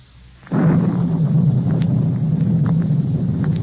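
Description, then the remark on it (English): A storm bursts in after a brief quiet moment, a loud, steady roar of wind and deep rumbling that carries on without letup, with faint whistling gusts above it. “As I came closer, a collar turned up against the storm.”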